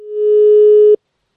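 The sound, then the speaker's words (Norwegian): A single steady electronic ringback tone of a call from Radio Nova's radio show to the Natural History Museum, loud, sounding for about a second before cutting off abruptly into silence. “Og vi i radiotjenesten kaster oss selvfølgelig på trenden, for vi skal nå ringe Naturhistorisk museum for å høre om de har det dyret som vi trenger.”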